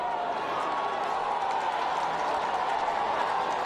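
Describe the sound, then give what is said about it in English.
A dense, steady roar of a crowd of onlookers cheering and calling out at a collapsed building on Lagos Island as children are rescued from the debris, sustained at an even level throughout with no pauses, continuous. “Several children were rescued from the debris, and the crowd watching cheered when that news reached them.”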